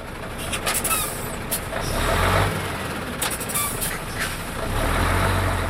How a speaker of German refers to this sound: Die Ampel springt von Rot auf Grün, der vorderste Laster fährt an, die Kolonne hinter ihm zieht im Schritttempo nach.